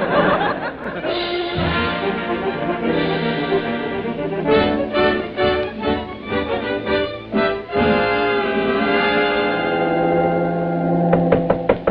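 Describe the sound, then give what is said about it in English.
Several sharp, evenly spaced raps on a stateroom door sound over a sustained musical background with bursts of laughter-like vocal sounds. “Somebody's at the stateroom door.”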